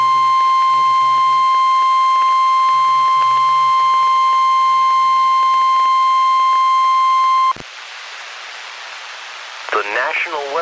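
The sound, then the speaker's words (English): A steady, piercing single-pitched weather radio alert tone, announcing a National Weather Service severe thunderstorm watch for counties in Maine, holds for about seven seconds over faint murmuring voices, then cuts off abruptly into a rush of hissing static. “Did you hear one of those things? Yeah, you know what? It sounded like I heard one of those...”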